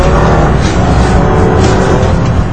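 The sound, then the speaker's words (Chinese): A motorcycle engine roars loudly and steadily, a rough, continuous motor drone with no voices, holding at full volume throughout. “只要是一听到突突突的摩托车声，大家就知道一定是大灰狼来了。”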